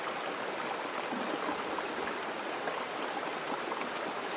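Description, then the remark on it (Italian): A flowing stream rushes and babbles steadily throughout, a continuous, even wash of water at moderate loudness with no voices or other sounds. “Permettete a quest'acqua, la forza energetica di quest'acqua, di scorrere in tutto il vostro corpo.”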